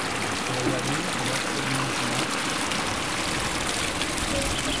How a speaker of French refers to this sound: Du coup, toute l'eau descend par là, ça va dans des cascades et ça retourne ici, dans un petit endroit là où ça stocke l'eau. Et derrière, il y a un moulin à eau qu'on entend.